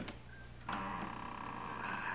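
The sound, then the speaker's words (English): A door lock being worked open: a faint click, then a steady mechanical grinding and whirring that continues at an even level for over a second, with no voices. “Here goes the lock. Now to open this door without making too much noise.”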